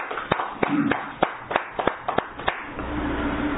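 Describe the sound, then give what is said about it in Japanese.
Scattered audience applause celebrating birthdays, including a 70th birthday: about ten sharp hand claps at an uneven pace over a few seconds, fairly loud and crisp, with no talking, then fading into a low background hum. “拍手でお祝いを。”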